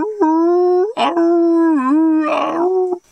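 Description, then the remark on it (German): A dog whimpers and howls in long, wavering, high-pitched cries, fairly loud, with brief breathy breaks between the drawn-out tones. “wirft ihn in einen Kinderwagen und eine Pappsilhouette von Hund, die an seinem Rücken steckt, ihn steif gehen ließ, steckt sie auf den Wagen und kippt sie so, dass das Hundemaul im Wagen ist, winselt.”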